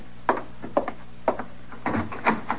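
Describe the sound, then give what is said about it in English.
A door being rattled and jostled by someone working it from the outside, with a series of irregular wooden knocks and clattering bursts at moderate loudness, and no voices. “that ain't the wind. There's somebody working the door that way.”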